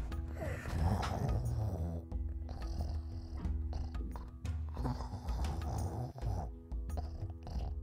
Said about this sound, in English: that sounds like snoring. Sounds like a bear snoring, to be precise. Right near the door, you hear... no. But yes, you hear that rhythmic sound.